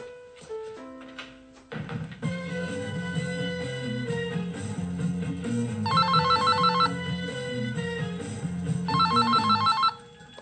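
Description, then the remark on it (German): A telephone rings in a living room with a melodic electronic ringtone, steady tones broken by two bursts of rapid trilling, loud for about ten seconds with no voices. “Ach, ja, warte mal, ich gehe rasch in den Flur mit dem Telefon.”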